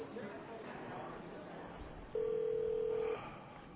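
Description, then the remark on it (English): A single steady telephone keypad tone sounds loud for about a second, standing out over a low, muffled background murmur. “Let me use your phone.”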